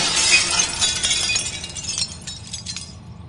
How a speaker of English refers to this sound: with one blow from Stephen, the frozen man's puppet body shattered like glass